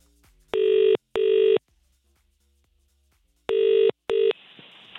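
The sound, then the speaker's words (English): A telephone ringing tone, a call being placed to a dog groomers called Gay Dogs, sounds in two double bursts, each pair of buzzing rings separated by a pause of silence, loud and steady-pitched, with no talking. “I'm connecting you now.”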